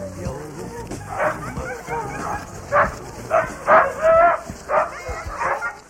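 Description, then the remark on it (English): A pack of sled huskies in Finnish Lapland barks and yips excitedly in a busy, overlapping chorus, with sharp repeated barks and a steady din of more dogs, at a husky dog sled ride where two teams run a lap of about 300 meters at a time. “My journey to Finnish Lapland would not have been complete without taking a spin in a husky dog sled.”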